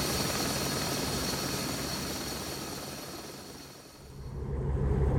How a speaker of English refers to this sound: German helicopter gunships took off and landed, ferrying the wounded to Eden Base.